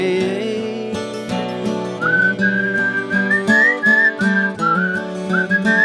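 A person whistles a bright, wavering melody over steady instrumental accompaniment, the whistle entering a couple of seconds in and carrying the tune clearly and fairly loudly to the end.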